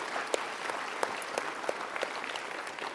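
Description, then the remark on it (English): An audience breaks into sustained applause for someone who has just been baptized, a dense wash of many hands clapping at a steady level, with a few sharper individual claps standing out and no talking over it. “So let's clap for him one more time.”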